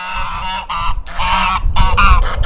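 geese honking

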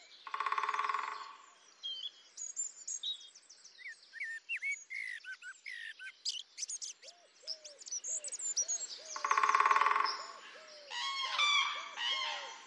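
birdsong

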